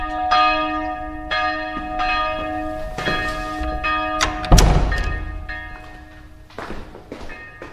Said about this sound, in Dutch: Het is elke keer weer die bel. Dan denk je, oh ja, moet weer. Dus gaan we weer naar de kerk. Boekjes pakken. En in dit geval de middagdienst. En daarnaast wel lekker warm eten. Dus wat dat betreft is deze bel wel welkom.